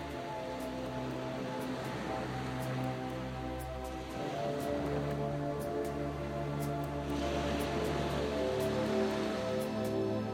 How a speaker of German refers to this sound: Und mein Atem passt sich dem Rhythmus der Wellen an.